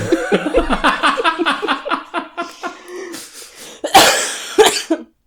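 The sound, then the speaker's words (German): A loud coughing fit of someone out of breath after running: a rapid run of harsh coughs and strained, raspy, squeaky wheezing breaths, ending in a couple of forceful hacking coughs. No one speaks. “Entweder hatte ich einen Hustenanfall oder ich habe so ein quietschendes, leicht röchelndes Einatmen hinter mich gebracht.”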